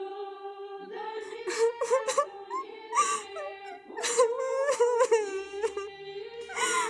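A young woman, a 17-year-old serf bride at her wedding in the village of Nikolskoye, Tambov Governorate, cries and sobs in a sustained, high-pitched wail, broken by sharp catching breaths and shaky gasps, loud and alone for about seven seconds.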